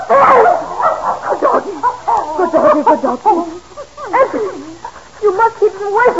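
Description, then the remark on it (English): A dog barks and yips while digging in the ground, in a rapid, unbroken stream of sharp, high-pitched calls, loud, keeping up the noisy outburst throughout. “that blasted doggy's gone and started digging under Master's...”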